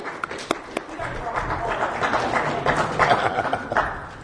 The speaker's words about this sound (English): And I also want to send a shout out to the volunteers. I just give a round of applause to them for helping us.